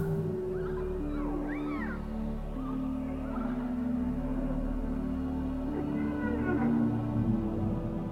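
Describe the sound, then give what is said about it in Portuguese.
Whale song fills the scene, long eerie moans and a few rising, whooping calls drifting over a steady low droning hum, continuous and fairly soft, with no talking. “Repita esse procedimento 2 ou 3 vezes enquanto as nossas amigas baleias conversam contigo.”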